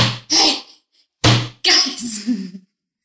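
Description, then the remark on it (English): Two loud, heavy bangs on the side of a carriage, about a second apart, seemingly imitated by a voice and each followed by rough, breathy vocal noises. “You guys, hey, I'm banging on the side of the carriage.”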